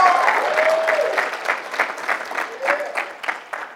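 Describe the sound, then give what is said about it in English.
Sustained audience applause for a woman's decision, a dense patter of many hands clapping at steady volume, with a faint tonal whistle or cheer sliding through briefly before the clapping begins to taper. “Let's give her another round of applause for that decision.”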